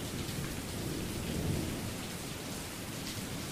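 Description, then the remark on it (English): Steady, dense rainfall hisses without a break while a low thunder rumble rolls underneath, swelling slightly midway before settling back. No one speaks. “I invite you to quiet your mind to the quiet of nature, the peaceful clapping of raindrops, or the fragrance of the outdoors being stirred by weather.”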